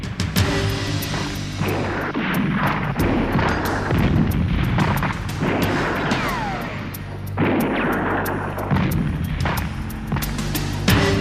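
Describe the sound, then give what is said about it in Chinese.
Heavy artillery shelling by the enemy on retreating troops of the 200th Division in Burma, explosions booming one after another over a dense, continuous roar of battle; loud, with sharp blasts punctuating the rumble and no voices. “敌人向我哋发炮啊！”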